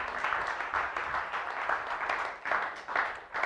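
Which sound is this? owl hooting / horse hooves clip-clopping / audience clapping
audience clapping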